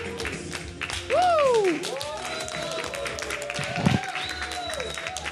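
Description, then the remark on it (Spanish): Light applause from a small group at a presentation, where more than 20 people are present but only a few clap: they clap steadily and unevenly for several seconds, while rising and falling whoops or whistles slide over the top. “Veo más de 20 personas que escucho un 3 aplausos.”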